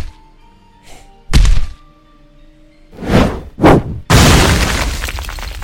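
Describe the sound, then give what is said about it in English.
Heavy thuds and crashes: a sharp impact, two booming stomps, then a loud sustained crash of breaking debris, as a massive monster at the stairs of a school's northern building stomps up the stairs and smashes through the front of the building, with no talking. “That sounded like the monster just like stomped up the stairs, reached down and just picked one of the stairs up or something, and threw it through the front of the building.”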